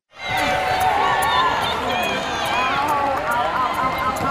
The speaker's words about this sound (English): NYO fans are both cheering and wincing as they watch the final event of the weekend. It's the seal hop, and that squeaking noise is the boys' knuckles skidding on the floor as they hop in plank position.